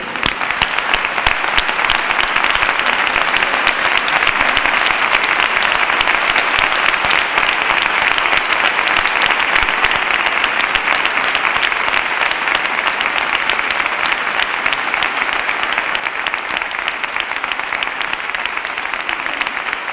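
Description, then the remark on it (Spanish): Loud, sustained applause from a large audience, asked to stand, for a choir fills the whole twenty seconds, a dense steady roar of clapping with no pauses and no voices standing out. “Con el permiso de los presentes y haciendo uso de vuestra confianza, os pido que os pongáis en pie y junto a mí dedicarle el más fuerte de los aplausos a este pedazo de coro, mi coro.”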